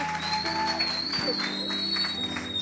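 A large crowd applauds steadily for a few seconds, a dense wash of many hands clapping at once, with faint sustained tones humming underneath.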